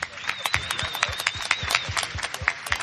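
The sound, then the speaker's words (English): A press audience bursts into sustained, loud applause after the introduction of Zack Snyder, Amy Adams, Michael Shannon, writer David Goyer and composer Hans Zimmer: dense overlapping clapping that stays steady throughout, with a faint high whistling tone running over it and a murmur of crowd voices underneath. “A massive torrent of applause from the press.”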